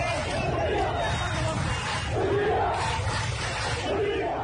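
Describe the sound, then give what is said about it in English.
A large crowd of demonstrators chants slogans in unison outdoors in the streets of Port Sudan, Sudan, on a Thursday, protesting against President Omar al-Bashir and his government, a dense, steady roar of many voices rising and falling in rhythmic waves, loud throughout. “Amateur video posted on Twitter showed large crowds of demonstrators in the streets of Port Sudan Thursday chanting slogans against President Bashir and his government.”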